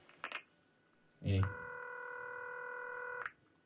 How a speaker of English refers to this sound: Oh. Excuse me. I just have to run off and answer the phone now, I think.